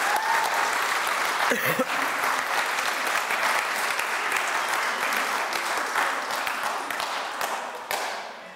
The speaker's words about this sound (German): und ja, gerne mal einen Applaus zuerst. Danke vielmals.